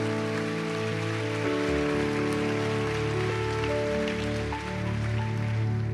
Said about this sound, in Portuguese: Pode aplaudir o Senhor.